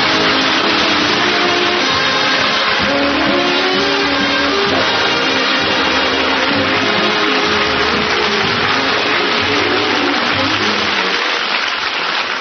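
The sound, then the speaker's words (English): An audience claps steadily and loudly for about twelve seconds to welcome Phil Harris at the start of his new season, the dense patter of applause blending with a band playing sustained, brassy chords underneath. “You're all applauding, and you got those smiles on your faces, and you're glad to see me.”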